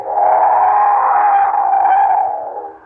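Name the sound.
train whistle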